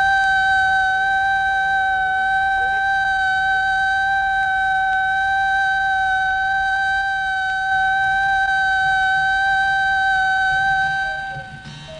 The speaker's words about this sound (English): First, learn the warning signals. The alert signal is a steady blast on a siren or fire horn of 3 to 5 minutes duration. This is how it sounds.